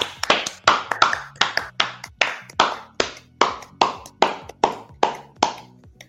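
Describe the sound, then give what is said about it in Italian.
A show's audience gives steady applause of sharp, distinct hand claps, roughly two per second, in an even rhythm for about six seconds with no voices over it. “Facciamogli un applauso, facciamogli certo. Un applauso.”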